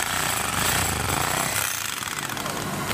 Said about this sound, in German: Weil bei uns werden die Säcke zugenäht, alles mit Liebe gemacht. Können wir uns vielleicht mal anhören, wie sich so eine Nähmaschine, eine Sack-Zunähmaschine anhört.